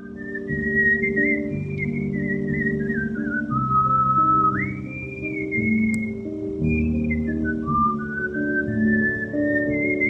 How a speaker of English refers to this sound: began to whistle, that is, make a high-pitched noise by exhaling air between his pursed lips. Within minutes, it went from a shrill noise to a recognizable tune.